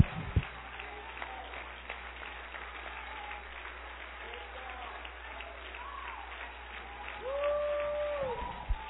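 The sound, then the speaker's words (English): An audience claps continuously in a dense, steady patter of many hands, with a crowd murmuring underneath and a brief rising tone near the end. “Oh, clap those hands.”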